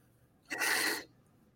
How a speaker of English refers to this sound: I blow my nose, but nothing would come out. This is terrible.